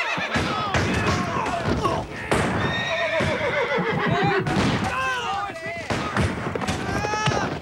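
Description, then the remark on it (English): Several horses whinny and neigh loudly and repeatedly, agitated, rearing up and bucking their riders, over clattering hooves and sharp intermittent cracks and thuds of gunfire from surrounding trees in a busy, chaotic scene. “The horses rear up and buck their riders as Confederates snipe from the surrounding trees.”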